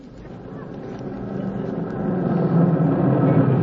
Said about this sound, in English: Hey, the milkman just pulled in the driveway.